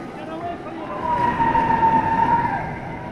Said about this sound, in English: Going under an overpass, there's a car coming the opposite way. People, it's slowing down. People are moving into the right lane.